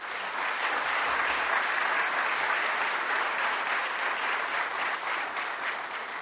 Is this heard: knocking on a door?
no